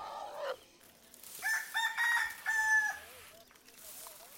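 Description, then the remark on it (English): A rooster crows once in a long, drawn-out call over quiet outdoor ambience of a dusty rural village, with faint scattered clucks and rustling around it. “In a dusty rural village, a woman rakes. Another winnows rice. Children run and chickens walk freely.”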